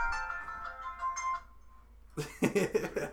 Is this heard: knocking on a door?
no